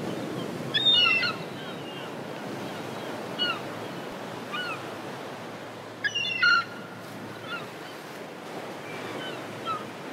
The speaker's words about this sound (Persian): صدای مرغای دریایی بود. آفرین، صدای مرغای دریایی بود.